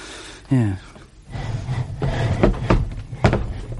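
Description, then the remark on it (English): A man shoves and wedges a chair against a door, with a few wooden knocks and scrapes following a brief creaking sound, while muffled voices murmur underneath. “He wedges a chair against the door, rationally.”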